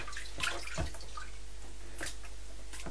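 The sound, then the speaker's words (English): Water sloshing and splashing in a steady wet background, with a few brief sharper splashes standing out, as if someone is moving around in a tub or small pool. “Oh, oh dear, Big Splash.”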